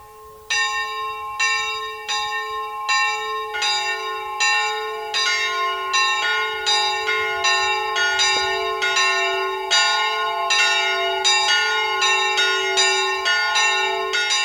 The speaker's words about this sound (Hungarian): Minden délben megszólal a református templom harangja? Igen, ahhoz ragaszkodtam, tehát a református templom harangját villamosítottuk, és így most könnyű megszólaltatni a harangot.